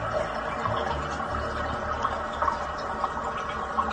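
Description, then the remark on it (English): A toilet tank refilling after a flush: a steady, rushing hiss of running water with faint gurgles and scattered small ticks, continuing evenly throughout with no voices. “Those ones are terrible when you need to do a double flush, but you've got to wait for it to fill up again.”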